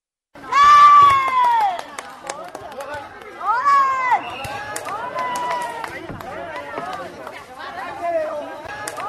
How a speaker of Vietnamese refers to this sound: Tám giờ sáng, ba sân thi đấu bóng chuyền hơi tại Ủy ban nhân dân phường Tân Lập đã chật cứng người đến xem. Trong tiếng reo hò cổ vũ không ngớt của các cổ động viên, những quả bóng chuyền hơi màu vàng theo đôi tay khỏe khoắn, khéo léo của các